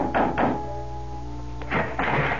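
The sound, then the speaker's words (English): Firm knocks on the wooden door of a house at dusk, two quick raps, a brief pause, then another round of knocking, over a low steady hum with no voices. “dusk was beginning to fall when, exhausted, famished, and dirty from the road, I knocked on the door of the Adams house”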